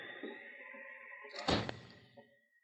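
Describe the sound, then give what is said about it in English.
A door swings shut with a drawn-out creaking hinge, ending in a single solid thud, then a faint rattle as it settles. Fairly loud, with no talking. “Close the door, Charlie.”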